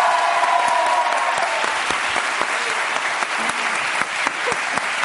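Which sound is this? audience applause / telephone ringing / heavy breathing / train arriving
audience applause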